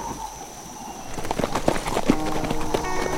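Horses' hooves clip-clop at a steady walking rhythm as riders go up a mountain slope past a log cabin through knee-deep snow, a series of sharp knocks growing louder as the riders approach, with no voices.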